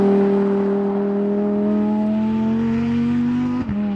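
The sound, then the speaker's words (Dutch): A loud Lamborghini Huracan Technica sports-car engine drones steadily for four seconds, its pitch climbing slowly as it pulls, then briefly dips in a quick shift near the end. No one speaks. “En Wouter in de Lamborghini Huracan Technica.”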